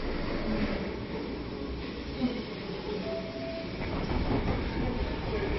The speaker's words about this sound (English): We're on a very noisy Merseyrail train on its way to Egbeth, which is a suburb of Liverpool